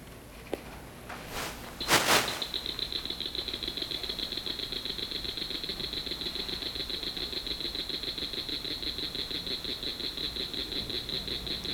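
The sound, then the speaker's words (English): A northern cricket frog calling in a long, rapid series of sharp, high-pitched clicking pulses at a steady rhythm, preceded by a couple of brief noisy bursts at the start. “Okay, so northern cricket frog.”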